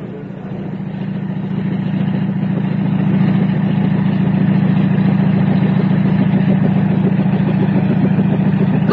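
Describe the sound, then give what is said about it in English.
A helicopter flying in and out from the oil rigs runs its engine, a loud, steady droning hum with a low throbbing tone that swells slightly in the first few seconds and then holds constant. “It's the helicopter. They're in and out all the time from the oil rigs.”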